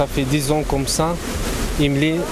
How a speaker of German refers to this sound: Wir wandern zusammen zu den Wasserfällen, die hier ins Tal rauschen.